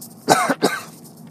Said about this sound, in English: Excuse me one second, I'm going to take a drink of water because I am coughing here.